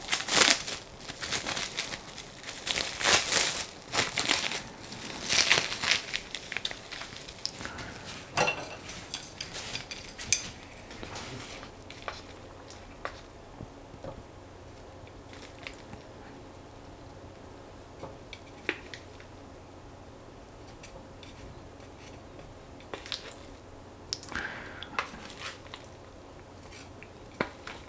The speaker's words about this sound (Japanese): これ今あの鍋に玉ねぎ、人参、じゃがいもを敷き詰めた上で上に鶏もも肉を乗せている作業の音ですね。